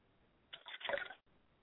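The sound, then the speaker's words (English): Liquid is poured out as a libation to the north in one short, splashy stream lasting under a second, a soft hissing trickle that rises and cuts off abruptly, with quiet background hiss around it and no talking. “I pour libation to the north, and I say Ashe.”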